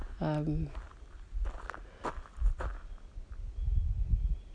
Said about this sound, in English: But I also wanted to walk peacefully. I wanted to walk in silence. I guess I could have just given you my footsteps and the birds.